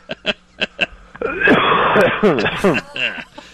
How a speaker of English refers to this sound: The cough into the phone.